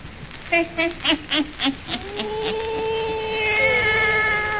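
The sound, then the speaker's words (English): A black cat meows in a quick run of about six short cries, then stretches into one long, wavering yowl that trails on to the end. No voices are heard. “And now for our visit to old Nancy and her wise black cat.”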